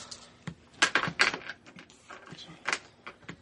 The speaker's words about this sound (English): The creepy old caretaker takes great pleasure in chaining the front door shut.